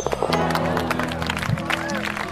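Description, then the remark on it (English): A golf gallery at the Truist Championship applauds, steady scattered clapping mixed with murmuring and cheering voices, moderately loud and sustained for a couple of seconds. “We got a crowd here, too.”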